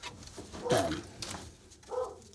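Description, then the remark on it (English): A dog barks a couple of times upstairs, muffled, with a brief whine-like tone between the barks over a low room hum. “I've got a dog upstairs barking, so I've got to kind of watch this dog.”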